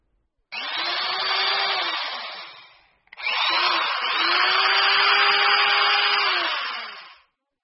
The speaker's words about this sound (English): C. Drill.